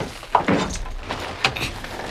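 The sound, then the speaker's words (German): Car doors open and shut as people climb into a car, giving a couple of muffled thuds with some shuffling and rustling between them. “Na gut, steigen wir auch ein.”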